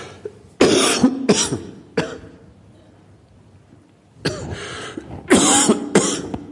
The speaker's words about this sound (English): Excuse me, I'm just going to cough.